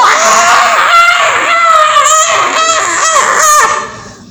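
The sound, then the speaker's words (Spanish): A woman in labor screams loudly as she enters, her high wailing cries rising and falling in pitch in several sustained bursts before trailing off at the end. “Y yo hasta este día le agradezco a Dios que mi esposa ya había acabado, porque si mi esposa había entrado cuando también esta mujer entró, yo creo que mi esposa se hubiera estresado, porque esta mujer entró gritando como un cerdo picado.”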